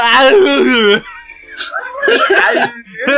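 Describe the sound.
A voice imitates a constipated straining moan: a loud, wavering one-second groan, then a short pause and a run of strained, breathy grunts and whimpers.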